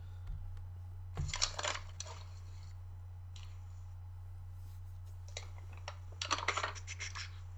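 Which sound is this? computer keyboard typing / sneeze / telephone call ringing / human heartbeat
computer keyboard typing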